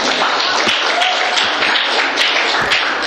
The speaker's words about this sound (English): All right. Applause. No applause. I didn't know.